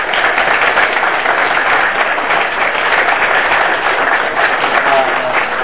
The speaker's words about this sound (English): The last thing I want to do is I want to give a round of applause to Barnes & Noble.